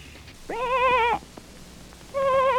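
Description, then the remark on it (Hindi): A shepherd's lost sheep, caught in thorny bushes in a forest on a dark, cloudy, windy night with light rain, bleats twice, a long wavering baa followed after a pause by a second one, clear, with no talking. “तब गड़रिये ने पहचाना कि ये उसी की भेड़ की आवाज है।”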